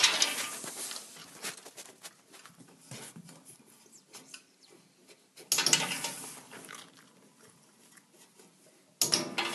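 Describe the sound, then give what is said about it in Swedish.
Sharp, bright clicks of a dog training clicker rewarding a dog with a treat as it stops at the jar with the right scent, mixed with a busy rattle and clatter of the jars being moved about, with louder bursts of noise near the middle and end. No one speaks. “Och får klick och godis.”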